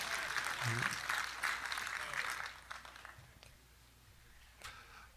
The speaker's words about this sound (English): He's trying to get a hand clap started over there, but I don't think it'll happen. The youth are clapping for you.